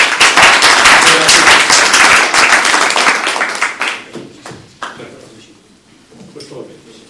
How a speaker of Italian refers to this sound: quindi gli farei un applauso di introduzione e poi...